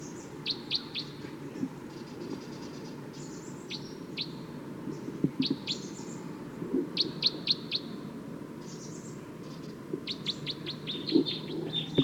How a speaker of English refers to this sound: Wild bird's calling loud now, as well as the decoys. Stop. It's recording wild bird pretty loud now.